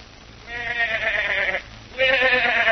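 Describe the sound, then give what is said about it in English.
A goat bleats twice, two long wavering cries with a short pause between them, the second starting just as loud as the first. “This poor thing's the goat in more ways than one”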